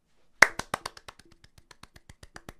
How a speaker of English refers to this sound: If you can't tell, that was me clapping. Clapping for Obama. Well done, Obama.